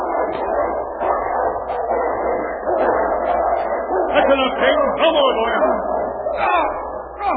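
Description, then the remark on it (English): Two dogs, King and Lobo, fighting: a continuous tangle of fierce snarls and growls broken by sharp yelps and barks, loud and chaotic throughout. “What happened? A dog fight?”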